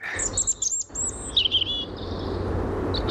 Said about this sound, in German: Das Rotkehlchen. Richtig.